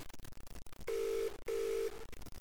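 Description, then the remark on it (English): A telephone ringing tone sounds two steady, loud electronic buzzes in quick succession, each lasting under half a second and separated by a short gap, with no one talking. “What's ringing?”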